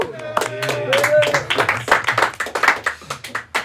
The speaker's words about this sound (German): Ein Applaus für den ersten Punkt.